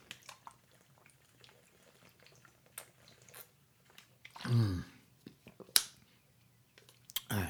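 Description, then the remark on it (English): Quiet sips and a swallow from someone drinking fresh water, with a fuller gulp in the middle, surrounded by small wet clicks and mouth sounds. “Love drinking fresh water. It keeps my throat clear as well as my mind as I talk about these things”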